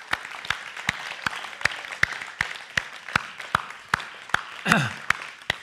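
An audience applauds a group of men one morning, a steady wash of many hands with sharp, evenly spaced claps cutting through in a regular rhythm. A brief falling whoop rises near the end.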